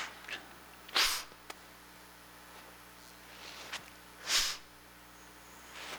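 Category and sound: human body sound, nose blowing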